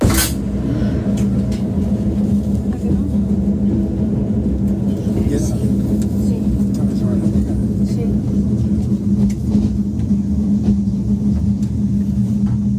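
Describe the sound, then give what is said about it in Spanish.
Recorded from inside a train between Talavera de la Reina and Calera Chozas: a sudden loud crash as it strikes a car, then a steady, heavy low rumble and droning hum as the train keeps braking for several seconds. “Habéis oído el golpe inicial y a partir de ese momento el tren va frenando y se empieza como a notar que el vagón va como por encima de piedras, ¿no?”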